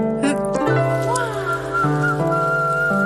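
Someone whistles a few gliding, sustained notes to call a stray dog, over a steady musical backdrop of held tones. The whistling is moderately loud, and nobody speaks.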